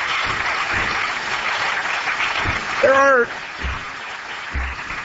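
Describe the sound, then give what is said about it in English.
Steady applause from a crowd, a dense wash of clapping that holds its level throughout, with a single voice letting out a brief whoop partway through. “Yes, you can applaud that.”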